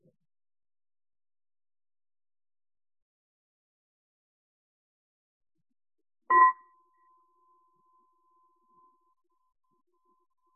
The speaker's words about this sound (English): So let me go ahead and start here in the room and I'll ring the bell to bring us back.